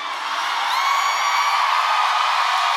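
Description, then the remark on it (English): A concert audience cheers in a loud, steady roar, with a few high whoops and whistles rising above the wash of sound. It holds the whole time, with no one speaking. “And you guys fucking cheer anyway.”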